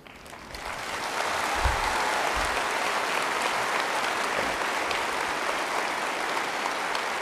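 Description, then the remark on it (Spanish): Sustained audience applause at a conference, welcoming the speaker at the start of a lecture: a dense crackling wash of many hands clapping that swells in over the first second and holds steady and loud for several seconds, with no voices above it. “Señoras, señores, muchas gracias por esas palabras de acogida benevolentes y por su aplauso.”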